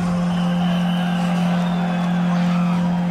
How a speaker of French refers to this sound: Dans les rues, sur le passage de la voiture qui conduit l'accusé au tribunal, la foule, venue en nombre pour le voir en vrai, est hostile, agressive.